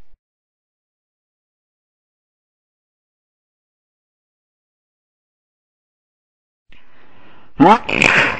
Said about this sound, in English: Oh, fucking shit! I almost blew her titties off with my sneeze.